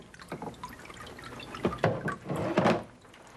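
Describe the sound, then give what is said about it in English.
Water drips and trickles in uneven bursts, splashing back into a vat as it drains through the screen of a papermaking mold and deckle, shaken while a sheet is formed from fiber pulp, with a denser pour near the end before it tapers off. No one speaks. “Then, I'm going to put the mold and deckel and form a sheet. You might notice this shake.”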